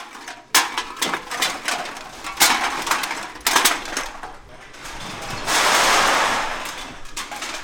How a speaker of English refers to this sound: The clink of bottles and clunk of aluminum cans reverberate through the cavernous sorting floor of the Bangor Redemption and Discount Beverage Center on Broadway.